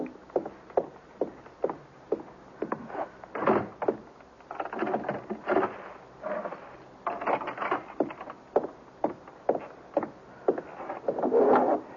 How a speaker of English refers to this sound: Mother, will you please just go and close the door and put the chain on, too?